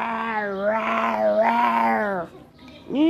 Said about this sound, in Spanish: Gonzalo llegó hasta el pantano y cuando saboreaba unas deliciosas hojas, escuchó unos rugidos muy fuertes. ¡Guau! El pobre dinosaurio Gonzalo estaba rodeado de tiranosaurios que le gruñían y le rugían.